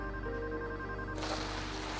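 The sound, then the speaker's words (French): A telephone rings with a steady electronic tone for about a second as a woman calls her ill partner, who is too weak to answer. The ring gives way to a broad, hissing wash of noise. Nobody speaks or picks up. “Mais le soir venu, il est si faible qu'il ne parvient même plus à répondre au téléphone.”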